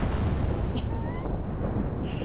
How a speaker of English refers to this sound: I hear thunder.